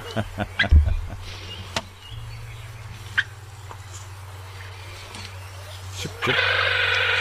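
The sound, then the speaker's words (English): Pūweto (spotless crake) calls: a quick run of sharp clicking notes, then scattered single clicks over a steady low hum, ending in a sustained buzzy, rasping purr. “I've never heard this bird song before.”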